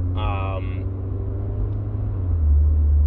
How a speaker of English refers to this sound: this is a lot of ambulances and fire trucks. Something bad happened.